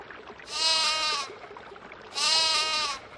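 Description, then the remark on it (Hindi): A lamb bleats twice, each call a drawn-out, quavering cry, with a short pause between them over faint background hiss. “एक भोले भाले भेड़ के बच्चे ने उसे रोक लिया।”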